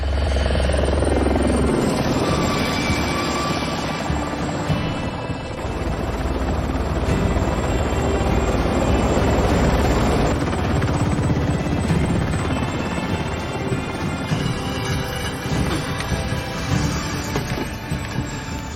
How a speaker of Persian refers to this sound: نه، مشکلی پیش نمیاد. هلیکوپترای قدیمی چیزیشون نمیشه.